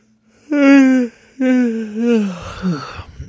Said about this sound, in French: je me lève à 5h du matin pour aller travailler... Puis je fais quand même votre podcast après le travail, fait que c'est pour ça que j'ai baillé